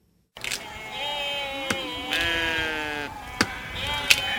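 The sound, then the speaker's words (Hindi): Sheep and goats being grazed by a herder of the nomadic Bakarwal community bleat in long, wavering cries that overlap one another, steady, with a few sharp clicks scattered through the herd's calls. “एक तरफ खाना बनाने के लिए लकड़ी काटने की जुद्दोजहद कर रहे हैं तो दूसरी तरफ भेड़ बकरियों को चरा रहे हैं।”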